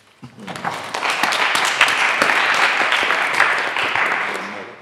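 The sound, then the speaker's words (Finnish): A burst of audience applause, many hands clapping in a dense, steady patter that rises quickly, holds for several seconds and then begins to taper off. “Aplodit heille.”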